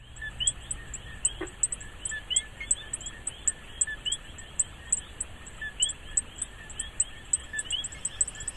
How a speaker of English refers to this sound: And the key note, the second note, is used by males to attract females. So first you tell the other guys to get out, and then you basically say, come here? Exactly. Let's hear, we have a clip of these frogs. Let's hear that.